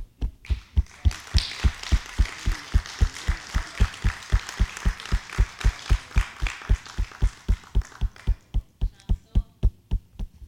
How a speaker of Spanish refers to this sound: Quisiera que por favor te dieras un aplauso a ti mismo por haber estado aquí esta tarde.